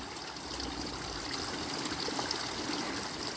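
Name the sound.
flowing stream water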